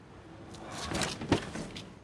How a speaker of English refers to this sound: A pigeon takes flight. An erupting pigeon briefly interrupts, otherwise silent.